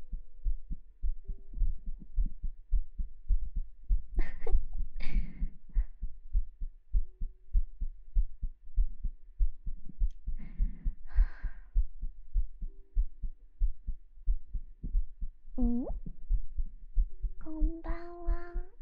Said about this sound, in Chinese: 你的心跳变快是什么东西啊？试一下憋气，3、2、1